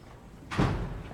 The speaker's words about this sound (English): A gray-haired, uniformed police officer and a younger man come through a security door with a narrow rectangular window and proceed down a narrow corridor.